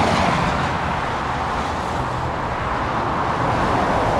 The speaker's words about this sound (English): Cars by the thousands rush past the huge mound of dirt along the west side of Highway 101 at the northern edge of Rohnert Park, where for the past 4 months, the earliest stages of a major improvement project have been underway.